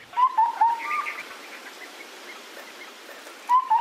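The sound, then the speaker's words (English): A small, small-winged mountaintop rainforest bird of the Sky Islands calls with a quick run of clear whistled notes, goes quiet for a few seconds, then repeats a short pair of whistles, with no voices. “They have small wings, they're small birds.”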